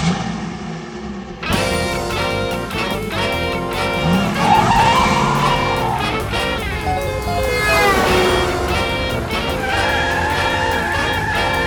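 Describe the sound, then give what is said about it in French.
A car driven fast suddenly roars off with squealing tires, its engine pitch rising and sliding in sweeps, loud amid a busy, dense wash of sound, with no voices. “Elle conduit vite et j'ai mal au cœur.”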